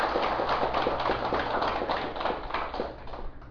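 A crowd claps steadily for a few seconds, a dense crackle of many hands that stays loud throughout and tapers only slightly toward the end.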